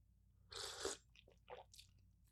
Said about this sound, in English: There's your ugly sipping sounds. I guess those aren't going anywhere.